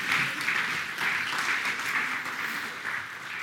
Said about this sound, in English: Round of applause to the girls, thank you.